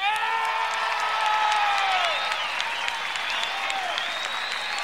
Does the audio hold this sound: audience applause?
yes